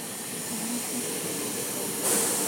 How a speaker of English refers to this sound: Now, this is the train to... This is the speed train, you know that, right? Yeah, the high-speed one. The one that goes to Ebbsfleet. I think it goes to... Where does it go? Is it Folkestone? Ramsgate.